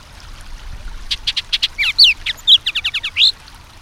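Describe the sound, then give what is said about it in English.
A loud bird song bursts out overhead in a rapid run of sharp whistled notes, some sweeping up or down, mixed with rougher guttural chuckling phrases over a faint low background rumble, recorded next to a stream under a leafy cottonwood tree in eastern Washington. “That loud song we're hearing, a mix of sharp whistles and guttural chuckles, is bursting out overhead.”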